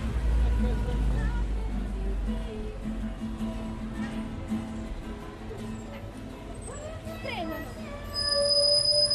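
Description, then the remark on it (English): A bus's brakes let out a shrill, high-pitched screech near the end as the bus brakes, rising over a low engine rumble and faint background voices. “See the screech there, the bus breaking.”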